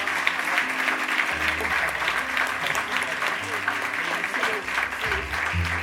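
Sustained audience applause at a gala for this year's 2025 Ploma d'Or award winner, a dense steady wash of many hands clapping at even loudness for several seconds, with low tonal music or hum faintly underneath.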